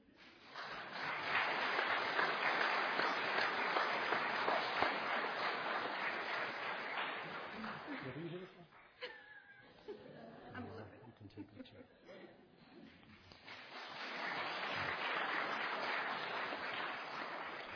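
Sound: audience applauding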